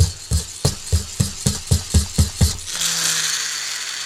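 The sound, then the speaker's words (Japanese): The wind-up engine of a Kattobi Riders toy figure, Kamen Rider Zero-One on a motorcycle, is cranked with about nine steady ratcheting clicks, then released into a continuous high, buzzing whir that runs on at an even pitch, fairly loud. “最近またね、あのカットビライダーズっていうね、まあ、バイクに乗ってる仮面ライダーのおもちゃみたいなフィギュア、まあ、このバイクが殺そうこっつうかね、エンジン搭載してんの。フラーンって、ちょっと今やっていい？音拾ってるかな、これ。”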